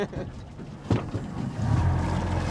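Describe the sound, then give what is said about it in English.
A boat's motor rumbles low and steady on the water as the boat slows down approaching an underwater oyster farm, with a brief knock partway through, then the engine drone grows heavier and fuller toward the end. “As the boat slowed down, and we began our approach to their underwater farm, I noticed several black devices about 2 feet in diameter floating on the clear water.”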